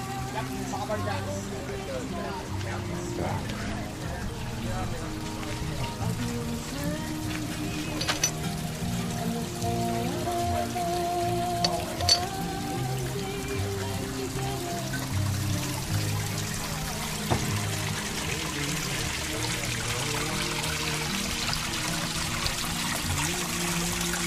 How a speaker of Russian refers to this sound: Фонтанчики.